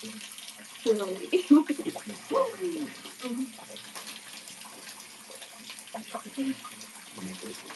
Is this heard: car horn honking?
no